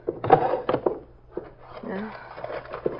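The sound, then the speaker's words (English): A drawer being opened and rummaged through while searching for letters, with a series of irregular knocks and rattles of items shifting inside, and a brief low murmur partway through. “Nothing much here in this drawer.”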